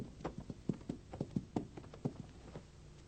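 Horse hooves clip-clop in a steady, uneven walking rhythm, a dozen or so sharp hollow knocks with a low background rumble and no talking.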